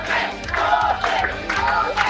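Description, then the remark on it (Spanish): A crowd cheers and shouts at the Partido Republicano headquarters, celebrating an election win. A dense, steady roar of many voices with repeated swells of louder yelling, and no single speaker standing out. “Es parte del sonido ambiente que escuchan a esta hora acá en la sede del Partido Republicano, quienes continúan con su celebración luego de que su candidato haya pasado segunda vuelta”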